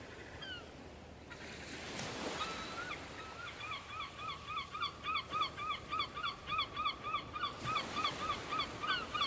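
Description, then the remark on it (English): Steady surf washes onto the shore of an untouched island coast with a couple of louder surges, while a flock of geese honks repeatedly and rhythmically over the rolling waves. “The sound of waves that reach the coast is really comforting.”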